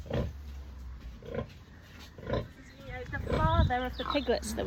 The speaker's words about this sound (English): What are you, a Berkshire Boar? Yeah, Berkshire Boar. So the piglets are half Mangalits, are half Berkshire.